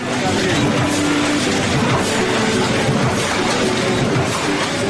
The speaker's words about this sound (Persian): ماشین های گردزده چاپ کتاب های گوناگون و سایر مواد چاپی شاید از ترس آسیب دیدن برای مدت کوتاه در ماه یک بار روشن شوند، اما چند ماه پیشتر این ماشین ها برای استراحت و متوقف شدن زمان محدودی داشتند.